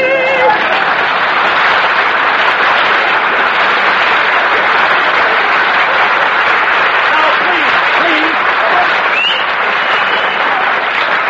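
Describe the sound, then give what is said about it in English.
A crowd applauds steadily for about eleven seconds, the clapping dense and loud throughout, with a few faint cheers and voices mixed into the wash of hands. “Applause, please.”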